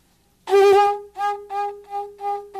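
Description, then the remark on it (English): A seashell horn, made from a shell with its end cut off to form a long circular tube, is blown: one long, loud blast, then four shorter pulsing blasts on the same steady, buzzy mid-pitched tone. No one speaks. “And we take it and we cut the end off here, which makes a circular tube here, quite long, just long if it could be straightened out.”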